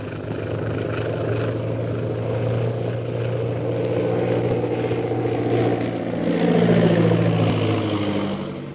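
A big silver propeller plane, lit by lights from a tower and being guided down by radio, drones steadily overhead, a loud, low, buzzing hum with a throbbing texture that swells and shifts in pitch toward the end. No one speaks.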